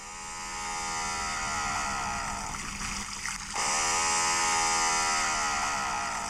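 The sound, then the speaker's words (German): An eerie underwater drone from the depths of the Southern Ocean with a buzzing, engine-like quality, like a lawnmower running beneath the water, holding a steady, dense tone with a brief dip in the middle before resuming. No voices. “Ein unheimliches Geräusch aus den Tiefen des Südpolarmeers. Ein Rasenmäher unter Wasser?”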